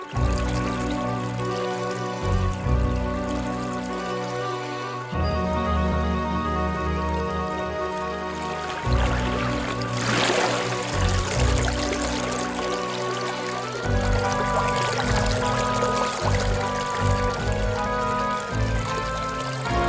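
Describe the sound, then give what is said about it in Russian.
River water flows and babbles steadily for the whole stretch, layered with sustained tonal music, moderately loud and continuous with no one talking. “Он взял бревно и поплыл на нем через реку”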